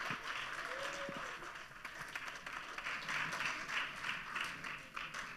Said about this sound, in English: That's your stage, and that's your applause. Have fun.